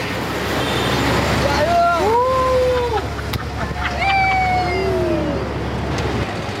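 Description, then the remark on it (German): A street sprinkler truck sprays water across the road, a loud, steady rushing hiss over busy traffic, with a few drawn-out, gliding tones ringing above it. “Jetzt wird Wasser dann auf, ich glaube, auf die Straßen gespritzt.”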